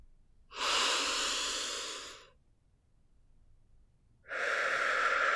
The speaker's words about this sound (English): First, I'd like us to start with some deep breathing. Breathe in and hold.